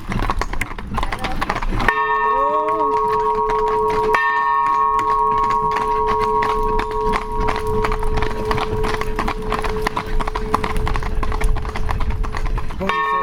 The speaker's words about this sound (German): Runter vom Kamm des Erzgebirges nach Jöhstedt, so heißt unser heutiges Ziel. Nachmittags sind wir wieder mit allen 5 Kutschen unterwegs und läuten nochmal ordentlich.